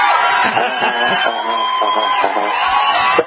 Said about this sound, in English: Do you know you just got applause? We never give callers applause like that. So you got high honors.